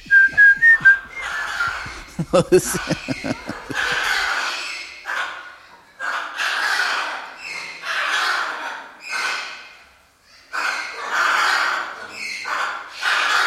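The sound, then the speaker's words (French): Two parrots whistle and squawk along with soldiers whistling in a film playing on screen, in a run of fairly loud bursts: a clear whistled note at the start, then repeated breathy, screechy phrases with short pauses between them. “Et en arrière, tous les perroquets, les deux, commencent aussi.”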